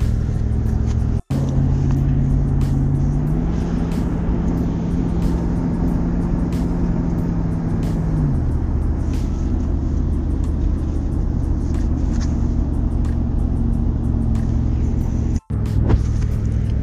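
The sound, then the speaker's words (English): A loud truck engine drones steadily from inside the cab while driving to work near MGM National Harbor, a deep constant rumble with a brief pitch rise in the middle and faint ticking clicks throughout. “Don't mind my truck in the background. I know that shit's loud.”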